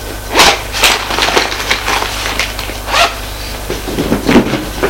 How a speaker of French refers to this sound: La voilà qui déballe ses affaires.